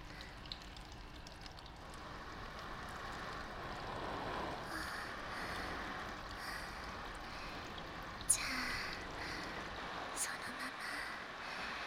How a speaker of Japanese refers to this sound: じゃあ頭からお湯をかけますよ。 はあ、暑い。大丈夫？ 頭からのシャワーは気持ちいいかしら。 大丈夫みたいね。